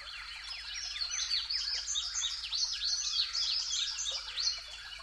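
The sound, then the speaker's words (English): A dense chorus of overlapping spring birdsong on a spring morning at sunrise, after the spring migration: many chirps, trills and rapid descending whistles from several birds at once, steady throughout with no one talking. “We're listening to spring birdsong, where everybody's pretty much setting up shop for the season.”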